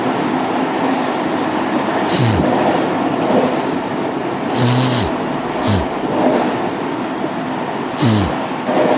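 Steady rumbling inside a moving train, with brief hissing bursts every few seconds and low, sliding mechanical tones underneath; no one speaks.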